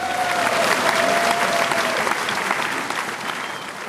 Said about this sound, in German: Ja, jetzt dürfen sie klatschen, wenn sie wollen, nicht?